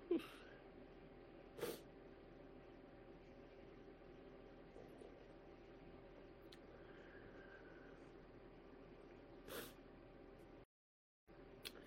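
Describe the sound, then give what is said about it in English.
A sharp sneeze breaks over a steady low droning hum, with a couple of other brief breathy bursts scattered through the otherwise quiet, wordless stretch. “Excuse me. Ooh, sneeze.”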